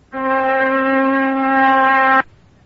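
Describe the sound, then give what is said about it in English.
A steady electric oscillator tone at 256 cycles per second, buzzy and rich in overtones, holds one mid-range pitch at a constant loud level for about two seconds, starting and stopping abruptly. “Now let us assume that I could spin this iron bar 256 times per second.”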